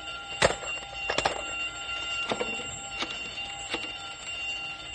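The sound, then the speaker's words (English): A steady, continuous alarm tone rings through the whole stretch with no pause, signalling that an escaped cobra is out of the building and onto the grounds, while sharp metallic clanks and knocks break in every second or so. Nobody speaks. “The alarm means that whatever's escaped is now out of the building and onto the grounds.”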